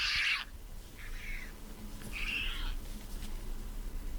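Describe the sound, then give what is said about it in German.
Three short, nasal white pelican calls, fairly quiet, with gaps between them: a brief opening cry, then two longer wavering calls. No one talks, and there is a low background hum. “Wie macht ein Pelikan? Achtung. Das ist ganz schön leise, hä?”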